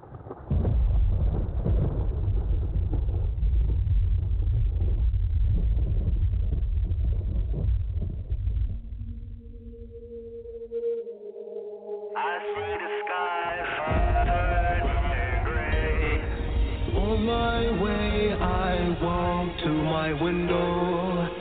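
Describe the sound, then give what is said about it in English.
A remixed song track opens with a thick, rumbling low-end wash, drops to sparse synth tones, then builds into dense, layered electronic music that plays loudly and continuously without any vocals. “So, yeah, we're going to go ahead and play this track”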